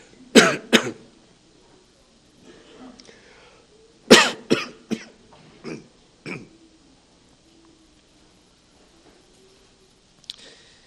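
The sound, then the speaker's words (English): A man coughs in two short bursts, pauses, then lets out a longer fit of several harsh coughs and throat clearing, ending with one faint final cough after a quiet stretch. “I should know enough to put a glass of water on the desk here.”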